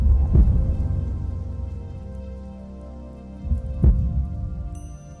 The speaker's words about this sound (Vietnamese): Âm thanh to nhất mà ông Hiếu nghe được là tiếng tim mình đập lên thình thịch.